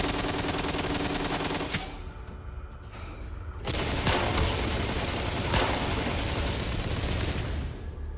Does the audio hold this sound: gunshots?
yes